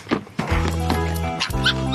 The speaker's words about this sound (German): Aber ich spiele euch jetzt erstmal, damit wir alle dabei sind, erstmal die Füchsin aus dem Hörspiel vor.